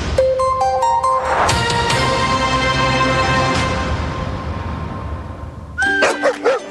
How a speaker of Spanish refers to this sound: Esos ladridos son los perritos de la Corporación Mirada Animal Chile, que están felices por el nuevo Centro de Control y Recuperación Canina.